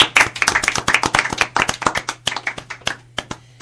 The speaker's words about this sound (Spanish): No te preocupes, un aplauso